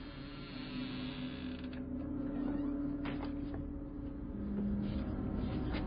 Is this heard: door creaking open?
yes